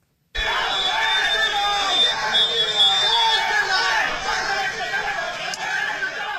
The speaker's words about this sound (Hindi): यह आवाज उस भीड़ की है जिसने आज दोपहर 1 बजे पाकुड़ के आंबेडकर चौक के पास स्वामी अग्निवेश पर जानलेवा हमला किया।